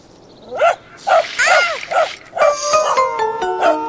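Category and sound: animal, dog barking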